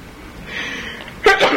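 A single sharp sneeze bursts out, preceded by a brief inhaled buildup, loud and abrupt against a quiet background.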